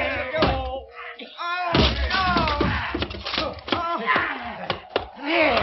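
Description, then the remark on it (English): A barred door is forced open by a group of men with heavy thuds, sharp cracks and banging impacts, while agitated voices shout and cry out over the commotion. “I'll not unbar me door to you this night! Yeah, we'll be coming in whether you like it or not!”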